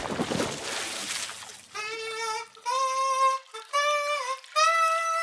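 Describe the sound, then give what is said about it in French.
A loud, noisy splash as Tim Moustique, a mosquito, dives into his bath water to wash his wings, followed by three or four high, wavering musical tones that rise and fall in pitch. “Alors, Tim Moustique plonge dans son bain.”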